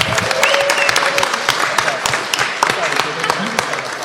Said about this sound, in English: Applause for us.